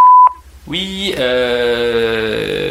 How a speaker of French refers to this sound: Vous pouvez toujours me laisser un message, et s'il est intéressant, je vous rappelle vite, c'est promis. Je crois que ça se passe après le bip ou un truc dans le genre, c'est bientôt à vous.